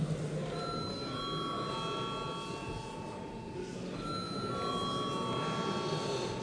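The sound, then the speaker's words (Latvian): The electric bell of the Saeima, Latvia's parliament chamber, rings continuously for several seconds before a vote, a steady bright metallic tone over the low murmur of a large hall. “Lūdzu zvanu.”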